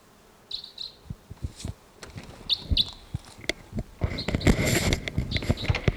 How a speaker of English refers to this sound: Stop. It's a bird. There's tooping in the distance as well. I thought a crossbill may have just swooped in here somewhere.